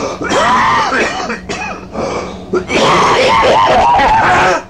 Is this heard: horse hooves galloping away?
no